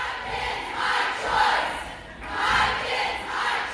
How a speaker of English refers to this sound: There were protests with people yelling, "My kids, my choice," and six people got arrested at the state Capitol building.